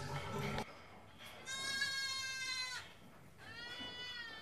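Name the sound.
goats bleating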